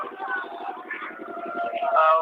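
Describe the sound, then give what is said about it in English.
An engine runs close by where people stand waiting for a boat, with a steady, rapid chugging pulse throughout, loud and continuous, while a voice talks over the mechanical drone. “We just wait for the boat because there's an engine over here where we're standing making a lot of noise.”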